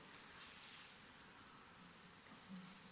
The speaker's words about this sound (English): Are we all there? I'm waiting till the pages stop rustling.